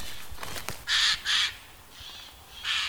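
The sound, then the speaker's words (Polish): A Eurasian jay gives a run of harsh, rasping screeches, about four loud bursts close together, one fainter, with no other voices around. “To ta chyba psioczy, że się może nie załapała się na tanie bilety.”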